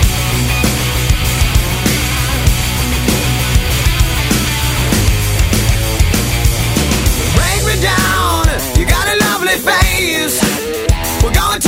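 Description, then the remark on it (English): A loud rock song plays, with heavy bass and a steady, driving drum beat; about two-thirds of the way through, a sung vocal line comes in over the band. “Okay, this next track goes out to Safi”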